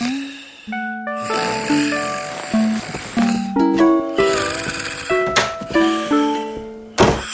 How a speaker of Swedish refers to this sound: Ibb kan inte sova. För musen snarkar.